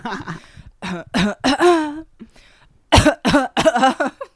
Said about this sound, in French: En fait j'ai envie de tousser donc ça me fait grave du bien ce jeu.